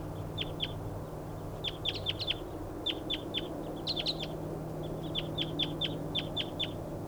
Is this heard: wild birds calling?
yes